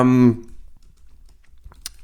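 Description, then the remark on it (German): A brief vocal sound opens, then a pile of plastic bags crinkles with scattered soft ticks and a sharp rustling burst near the end, as a bag falls. “Oh, ich glaube, ich habe da so einen Haufen Tüten. Ja, deine Tüte, Tüte fällt die fangen langsam an zu leben.”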